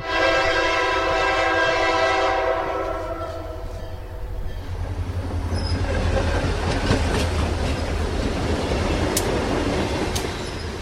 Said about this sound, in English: When we were kids in the 60s, we'd hear the train whistle and we'd run down to the tracks. It was so exciting because there were so few.